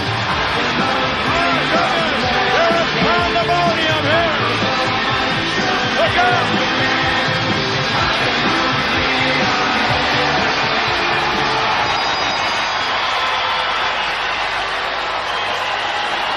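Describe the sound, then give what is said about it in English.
A capacity World Wrestling Federation crowd roars without letup for a tag team match of Hulk Hogan and Ricky Steamboat against the Honky Tonk Man and Randy Savage, a dense wall of cheering with scattered shrill yells and whoops, loud and steady throughout. “This capacity crowd has come alive.”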